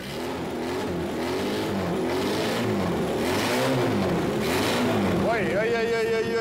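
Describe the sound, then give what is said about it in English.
An engine overfilled with oil revs up and down repeatedly as the throttle is worked, oil pouring from its breather, its pitch rising and falling in loud surges, with a higher whining tone emerging near the end. “Give it some gas.”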